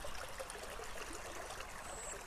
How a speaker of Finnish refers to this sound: Kuunnellaan tätä puroa nyt vielä, tämä on hieno.